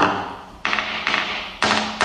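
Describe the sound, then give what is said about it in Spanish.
A small hammer taps a helicopter rotor blade four times at uneven intervals while it is inspected in a workshop, each strike a bright, ringing clink with a sharp attack that lingers and fades before the next hit. “Se hace con un pequeño martillo. Es al mismo tiempo que observamos la pala, vamos golpeándola.”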